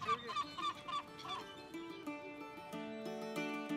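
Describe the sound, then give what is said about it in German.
Several seagulls call over one another at Flensburg harbour at sunrise, in a busy chorus of harsh, overlapping cries, fairly loud, with no one speaking. “Dann, wenn unten am Flensburger Hafen schon die Sonne aufgeht und die Möwen ihre ersten Runden drehen.”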